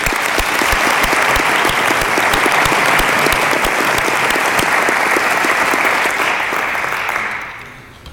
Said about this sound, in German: Bevor wir für Frias allgemein applaudieren, finde ich, haben diese vier nochmal einen Applaus verdient.